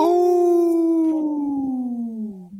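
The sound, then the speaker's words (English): A voice imitates a wolf with one long, loud, unbroken howl that glides slowly downward in pitch over a couple of seconds, with no talking. “We know the Lieutenant Governor is part of the wolf clan, so we like howling here on Native Roots Radio”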